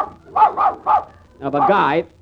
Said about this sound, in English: Madam, must your dog bark when I'm talking? You don't expect him to laugh, do you? No, but he can wipe that sneer off his face. Now, keep him quiet, please.